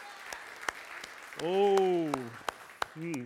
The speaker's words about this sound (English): Let's give a hand clap for Jesus. Thank you, Jesus.